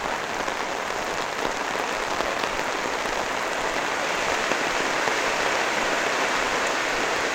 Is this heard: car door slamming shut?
no